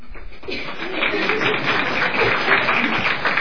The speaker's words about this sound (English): Everybody gets a clap at Christmas.